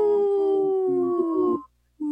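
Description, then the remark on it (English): A person lets out a long, loud, wavering howl that slowly slides downward, breaks off into brief silence, then starts up again as another howl begins right at the end, with a cat howling in the background. “That's a strong howl. And then the cat howled in the background.”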